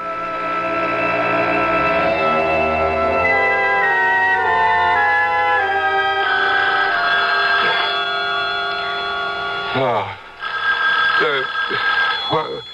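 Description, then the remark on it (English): A telephone bell rings over dense, sustained tonal sound, with a few brief rising and falling tones near the end. “The phone.”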